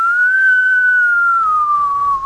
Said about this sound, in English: I'll play with you, wind. Just give a whistle.